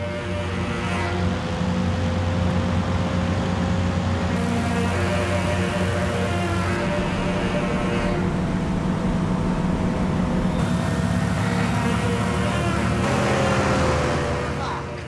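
Car engines rev loudly and continuously in David Michaud's film The Rover, a droning mechanical roar with occasional rising pitch surges as the motors are pushed harder, filling the whole stretch without a break.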